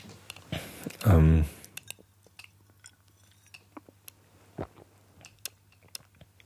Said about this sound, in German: Ich trinke nochmal einen Schluck Wasser ein.